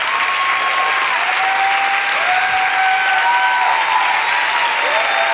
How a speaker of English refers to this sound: You should stand up and clap your hands and shout like he's able to do. Keep on clapping. Bring the worship team out here. The glory of the Lord is in this place. Just keep on clapping for a moment.